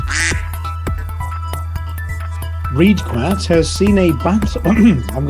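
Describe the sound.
A duck quacks in a run of harsh, nasal calls, sparse at first and then coming rapidly in the second half, loud over a steady low hum.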